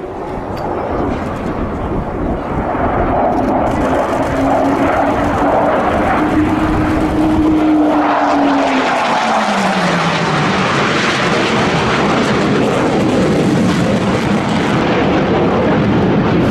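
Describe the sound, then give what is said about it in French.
The Russian engine of a Chengdu J-20 stealth fighter jet roars loudly and steadily throughout at the Zhuhai Air Show, with a whining tone that rises and then drops in pitch as the aircraft sweeps past. “Les médias chinois se sont évidemment extasiés sur cet avion chinois, mais assez peu ont mentionné le fait qu'il volait avec un moteur russe.”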